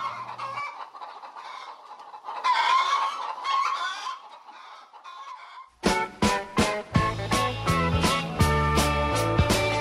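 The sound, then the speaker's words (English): Several chickens cluck and squawk in busy, overlapping bursts for about six seconds, then a loud, rhythmic music track abruptly takes over. “Why do you think I send the chickens in now?”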